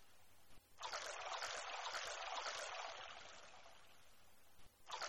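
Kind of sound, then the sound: household object, shower water running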